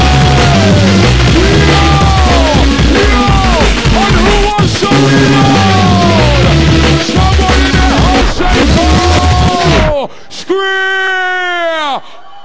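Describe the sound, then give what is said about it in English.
An audience yells and wails in a dense wash of overlapping voices for about ten seconds, followed by a single loud, drawn-out scream that stands alone near the end. “Someone scream for the audience!”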